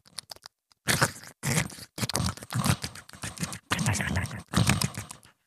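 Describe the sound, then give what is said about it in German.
A voice imitates a hedgehog smacking its lips, with a quick run of wet, crunchy clicks followed by several longer bursts of close, loud chewing and smacking. “Ein Igel, der schmatzt.”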